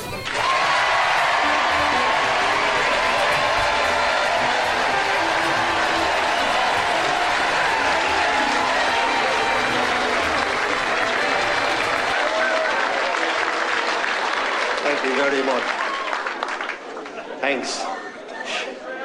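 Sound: audience applause and cheering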